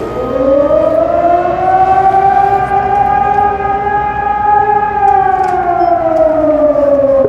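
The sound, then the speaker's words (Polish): A loud civil defense warning siren in Nowy Sącz, Poland, sounds alone during an exercise, its modulated signal warning of a threat to residents: the tone rises, holds high, then slowly dips, with rich harmonic overtones and a low rumble underneath. “Taki modulowany sygnał nadawany przez 3 minuty oznacza, że wystąpiło zagrożenie dla mieszkańców.”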